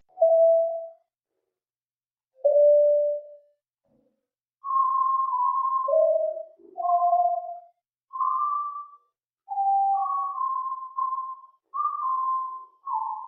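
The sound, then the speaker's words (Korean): A string of pure, whistle-like electronic tones taken from the Voice of Freedom broadcast used by the South Korean Ministry of National Defense for psychological warfare against North Korea plays alone, a dozen or so short notes stepping and gliding between middle and higher pitches, separated by brief silences, at a moderate steady loudness. “얼핏 들으면 고음의 피아노 소리나 새소리 같기도 한 이 고음역의 음향은 한국 국방부가 대북 심리전에 사용하는 자유의 소리 방송에서 발췌한 것인데 본래 국방부가 송출하는 방송과는 전혀 다릅니다.”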